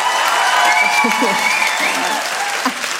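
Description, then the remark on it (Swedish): A crowd claps steadily and fairly loudly throughout, a dense continuous patter of many hands with faint voices mixed underneath. “Ge mig en applåd.”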